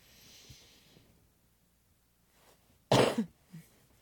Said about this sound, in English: Do you like that when I cough in your ears? I do it for you.